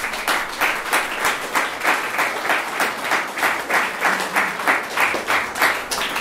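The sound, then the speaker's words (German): A crowd applauds election candidates to thank them for standing, many hands clapping in a dense, sustained wash that swells slightly in regular pulses throughout, with no voices over it. “Herzlichen Dank für eure Kandidatur. Applaus.”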